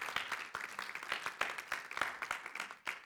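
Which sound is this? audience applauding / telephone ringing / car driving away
audience applauding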